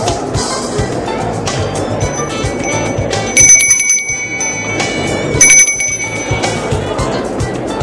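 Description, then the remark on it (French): A doorbell rings twice at the door of an apartment, each time a bright, high metallic tone that hangs briefly before fading, heard over a steady bed of busy background noise from a party inside with music, talking, laughing and dancing. “Il sonne à la porte de l'appartement inquiet.”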